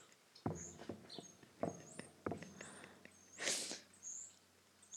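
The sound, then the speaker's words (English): Birds chirp in short, high twittering bursts throughout, mixed with scattered soft thumps and clicks and a brief rushing, hissy rustle partway through. Nobody speaks. “These birds need to calm the fuck down.”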